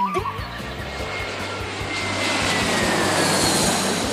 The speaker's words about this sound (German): Am Münchner Flughafen geht es ganz schön zur Sache. Über 900 Flugzeuge starten und landen hier jeden Tag. Und das rund um die Uhr.